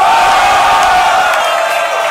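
A loud crowd roars continuously, a dense wash of cheering and shouting with scattered whoops rising out of it, sustained at full volume for the whole moment with no pauses.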